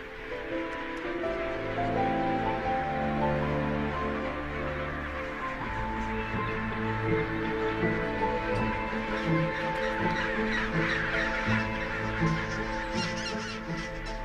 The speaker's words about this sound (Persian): حال باید خانواده خود را در میان بیش از 150,000 پرنده پیدا نماید. قوه شنوایی پنگوئن بسیار دقیق است که می تواند صدای بچه خود را در میان این هیاهو تشخیص دهد.